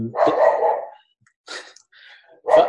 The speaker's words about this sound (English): Goodness me, my dog.